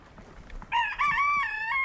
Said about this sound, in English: It's the communicating of I'm wanting to lay an egg, or with all the cackling when I've laid an egg.